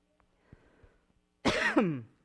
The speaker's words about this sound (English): When I try to do a quick drink of water, I end up just coughing.